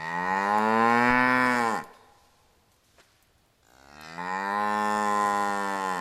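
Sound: cows and calves mooing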